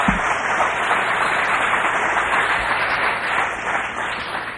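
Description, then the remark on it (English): A Calvary Chapel crowd applauds steadily to welcome a guest pastor who has come to share the word, with dense clapping that keeps a roughly even loudness throughout and no voices over it. “Never applaud the guy until you hear what he says.”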